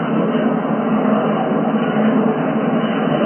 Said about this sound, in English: This is a subway train in Paris, France.